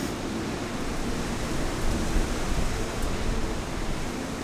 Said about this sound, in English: And the wind, you can see the rain kind of coming across in sheets like it does in coastal storms.